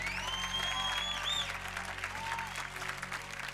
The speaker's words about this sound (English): Stand up, please. Give her a big old clap.